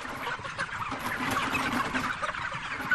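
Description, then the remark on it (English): A dense, continuous chorus of about 31,000 chickens clucking and chattering inside an enclosed poultry house on a farm, steady and moderately loud throughout, with no single bird standing out. “Now, if you have 31,000 chickens in here, the odds of something happening is pretty good, you know what I'm saying?”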